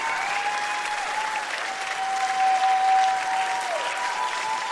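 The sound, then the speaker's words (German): Sustained applause from a sizeable audience at an evening music performance fills the room, a dense, steady wash of clapping hands at even loudness throughout, with a faint held tone running underneath. “Ihr Lieben, der schönste Applaus des heutigen Abends ist ehrlich gesagt, wenn ihr mich so anlächelt, wie ihr es gerade getan habt.”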